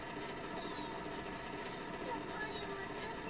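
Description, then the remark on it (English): Steady, dense rail ambience: a continuous rumbling hum with faint metallic hiss and squeal, like a train idling or rolling through a station, holding an even loudness throughout with no talking. “I'll go check the train station now.”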